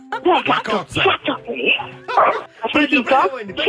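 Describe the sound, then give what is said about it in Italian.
A dog named Ciccio barks in a quick series of short, sharp yaps, fairly loud, with people's voices mixed in around the barks; the dog is at home and is being urged to bark. “Sì, c'è il cane. Me lo fa abbaiare un secondo?”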